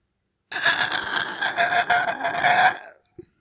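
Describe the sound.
A person imitates the groan made when stretching after waking up: a long, strained stretching groan of about two and a half seconds, rising and wavering in pitch with a raspy edge, then trailing off, followed by a short breath.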